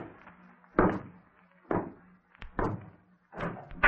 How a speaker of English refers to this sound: That's it. Now slam the door.